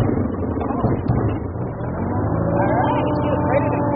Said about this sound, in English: firing up the single engine of this four-seat prop plane.